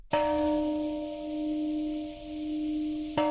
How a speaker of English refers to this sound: You're listening to the Peace Bell, which rang today at the precise time that bomb was dropped in Hiroshima.